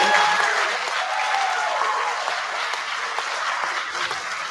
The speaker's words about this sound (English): So there you heard the applause when she said we need a ban on assault weapons.